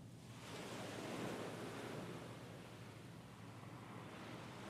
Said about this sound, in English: What do you think of when you hear this? A body of water, the ocean maybe?